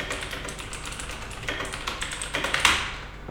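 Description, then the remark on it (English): Typing on a laptop keyboard: a steady run of soft, rapid key clicks, fairly quiet, with a slightly louder cluster of taps near the end and no voices. “I'm still typing. Still typing.”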